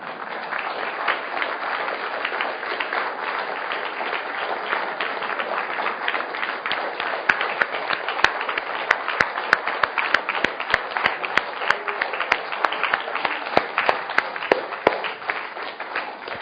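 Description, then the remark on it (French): Sustained audience applause after a poetry recitation, a dense wash of many hands clapping steadily for about sixteen seconds, with sharper individual claps standing out toward the end. “Vous pouvez applaudir.”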